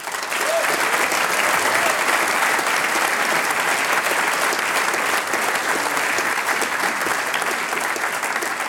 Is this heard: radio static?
no